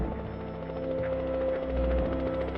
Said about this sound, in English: A helicopter lands on the south lawn at the White House.